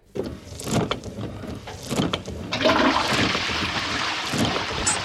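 A toilet flushes, heard in place of a car's windshield wipers being switched on: a loud gurgling rush of water that swells after a couple of seconds and keeps roaring steadily to the end, with no one speaking.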